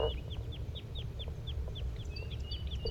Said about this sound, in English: Sounds like the flock is getting restless. They're getting flight calls. Here some come. Two of them just flew over and landed in a tree nearby.